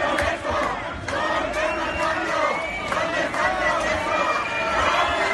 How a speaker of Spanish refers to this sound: Bueno, pues ayer una turbamulta de manifestantes se puso a corear que dónde estaba el cambio.